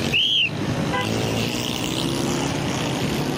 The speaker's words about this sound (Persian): سر و صدا زیاد است. من عصبانی میشم. مگر چی کردم میتوانم؟ من باید ترافیک را تنظیم کنم. اما اینجا بسیار سر و صدا است.